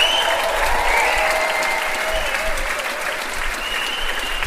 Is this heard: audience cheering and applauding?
yes